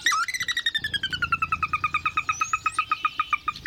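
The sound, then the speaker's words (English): A sora's whinny: a long run of rapid, evenly pulsed high notes that starts sharply and slides gradually down in pitch, loud and clear with no talking over it. “Sora.”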